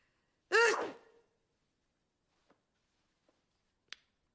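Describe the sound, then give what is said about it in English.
One loud, close sneeze bursts out sharply and trails off within half a second, followed by silence broken only by a few faint, scattered clicks. “Bless you. Thank you.”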